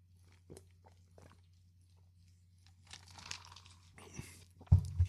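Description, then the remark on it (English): Crisp, irregular crunching of someone chewing Fruity Pebbles cereal, a few scattered clicks at first, then a denser run of munching, ending with a brief low thump. No one speaks. “And honestly, I don't want to have to hear someone's fucking mouth while I'm trying to fucking get my Fruity Pebbles.”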